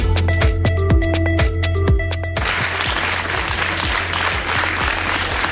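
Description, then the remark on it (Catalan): A short musical passage with steady percussive beats gives way after about two seconds to a dense, sustained burst of applause from a crowd outside the courthouse in Girona, as three firefighters and two fire service chiefs come out, clapping steadily and fairly loud until the end. “Sentim aplaudiments. És el moment en què sortien dels jutjats de Girona els tres bombers i dos caps d'aquest cos investigats per haver acudit a una manifestació l'endemà de l'1 d'octubre a la plaça del Vi de Girona.”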